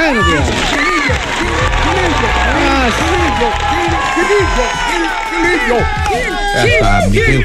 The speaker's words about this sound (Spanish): Pido un aplauso para Gil Barrera.